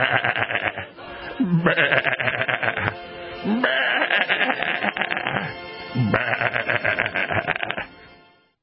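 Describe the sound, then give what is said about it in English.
Several loud sheep bleat one after another in long, wavering cries, overlapping slightly, with brief pauses between calls before fading out at the end. “It's just like our friends, the sheep, friends.”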